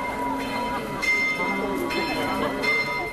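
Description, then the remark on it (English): Church bells peal at midday from the belfry of the 600-year-old Church of the Maltese Order, on an exclusive shopping street a few hundred metres from St. Stephen's Cathedral, fresh strikes landing every second or so over a dense wash of overlapping, sustained metallic tones, loud and steady throughout. “Stephen's Cathedral, another set of bells rings out from the belfry of the 600-year-old Church of the Maltese Order.”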